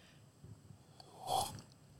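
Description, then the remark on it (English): A single quiet sip of coffee, a short soft wet mouth sound, rising briefly out of a faint low background hush with no talking. “When you said it was a bit loud, I tried to give you some coffee ASMR.”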